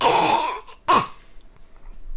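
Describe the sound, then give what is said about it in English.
A male cat hacks up a hairball: a long, harsh, wheezing retch followed by a second, shorter gagging heave, then quiet. No one speaks. “Okay, the fact that he actually got a hairball up.”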